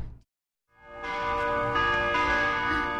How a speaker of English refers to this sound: The bells are ringing.